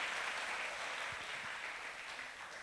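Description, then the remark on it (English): An audience claps and cheers for Jesus at the preacher's urging, in a dense, steady wash of applause for a few seconds, with faint scattered cheers mixed in, easing off slightly toward the end. “Come on, give him a shout, give him a clap.”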